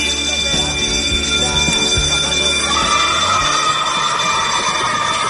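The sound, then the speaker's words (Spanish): A school bell rings continuously for several seconds to signal recess, a loud, shrill and steady metallic clangor with no pauses and no one talking. “Suena el timbre, llega la hora del recreo, el momento más esperado de todos los alumnos, de todos los estudiantes.”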